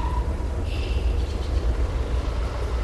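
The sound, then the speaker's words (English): A steady, deep mechanical hum rumbles without pause, like heavy drilling, with a thin high-pitched whine rising briefly over it early on, heard at the rear of a property with a house, barn and horse corrals. No one speaks. “As she walks, you start to hear a steady hum. It sounds like drilling or the rumble of a jet engine.”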